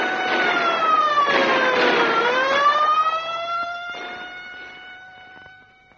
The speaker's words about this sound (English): And there's the siren.